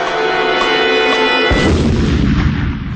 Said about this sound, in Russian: 4 ноября 1978 года в 4 часа 50 минут на Самарской площади города Куйбышева прогремел взрыв. Сила взрыва была такой, что из окон, выходящих на площадь многоэтажных жилых домов, вылетели стекла.